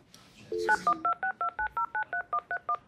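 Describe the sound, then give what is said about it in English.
A rapid run of about a dozen phone keypad dialing tones, evenly spaced and clear, each a short two-pitch beep, preceded by a brief chirp of higher tones. “Do I gotta press anything else? Just. Oh, send.”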